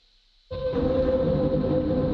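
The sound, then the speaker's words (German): After a brief silence, a train abruptly rumbles in loud, a steady, dense roar on the rails with a droning tonal hum running through it, sustained to the end. “mit einem vermeidbaren zum Davis Square und von dort mit dem Zug zum Central zurück.”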